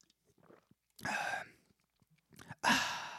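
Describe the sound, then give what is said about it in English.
Faint sipping and mouth sounds, followed by a loud breathy exhale, then a brief sip and a second, stronger satisfied "ahh" exhale. “That refreshing sound we make, that's what a man does. He takes a sip and he goes”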